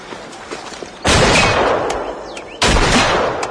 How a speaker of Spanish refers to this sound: Vaya disparo, Josu. Buen tiro, sí, señor.